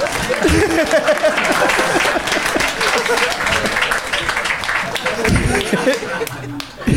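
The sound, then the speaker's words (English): A crowd applauds steadily for several seconds, a dense wash of clapping hands with a few voices and light laughter mixed in, tapering slightly near the end. “You can clap.”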